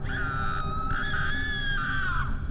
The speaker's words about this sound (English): I was suddenly woken up by the sounds of screaming.